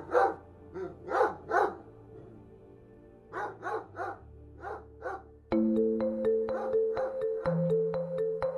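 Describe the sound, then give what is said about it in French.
A dog barks in two quick bursts of several sharp, clear barks, before steady rhythmic music with sustained tones takes over for the rest. “Au loin, ou peut-être tout près, je ne sais plus, un chien se met à aboyer.”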